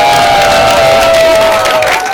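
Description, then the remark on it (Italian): An audience claps steadily and loudly for a couple of seconds to thank the helpers, the "dinamici", on the show Indovina chi entra in scena: a dense crackle of many hands, with cheering voices and a thin sustained tone running through it. “Allora un applauso anche ai dinamici.”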